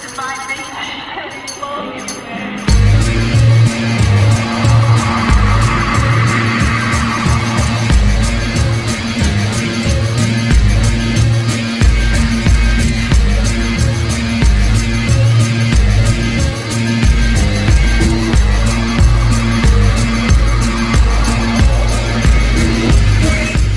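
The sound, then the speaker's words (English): Instrumental intro music for the show Nothing Urgent kicks in abruptly after a short, quieter lead-in. A steady, driving beat with heavy bass and a dense, bright texture plays loudly and continuously for about twenty seconds. “Last time we'll hear that interlude music. Or that intro music.”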